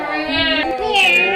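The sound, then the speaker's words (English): A voice drawls out a long, high, nasal meow imitating a cat, the pitch rising and then sliding into a second strained, wavering cry, loud and alone. “You ask for it. Meow.”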